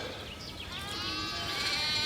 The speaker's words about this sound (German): Ich bewege mich gerade auf Schafe zu. Und ich hoffe, das hört ihr auch. Hört man das schon? Ach, Schafe sind was Tolles. Ja, ich bin mitten in Köln und ja, hier gibt es Schafe.